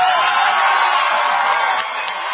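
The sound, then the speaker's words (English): A crowd cheers loudly and without a break, a dense, steady roar of many voices with scattered whoops rising out of it, easing slightly toward the end. “There's probably another person who maybe is listening to your cheers here tonight also.”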